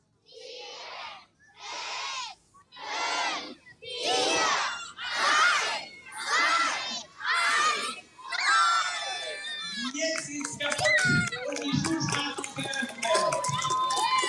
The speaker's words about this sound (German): Die Schulstraße ist eröffnet, haben wir gehört. Jawohl, sie ist eröffnet. Das rote Band ist durchtrennt, die Kinder jubeln.